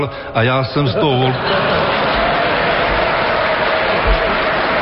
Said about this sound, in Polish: Gdy oklaski i śmiechy ucichły, senator przeprosił urzędującego prezydenta Václava Klausa za pomyłkę.